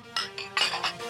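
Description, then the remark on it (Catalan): Glasses clink together in a toast, four or five bright, ringing taps in quick succession, fairly loud, with a faint murmur underneath. “Fem un brindis final. Fem un brindis.”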